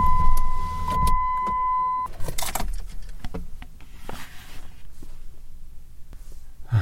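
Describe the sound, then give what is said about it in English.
A car's power window is lowered so the occupants can listen outside, humming down with a steady motor whine for about two seconds and ending in a soft thump, followed by quiet clicks and rustling with a low rumble underneath. “Maybe put down my window and see if I can't hear it.”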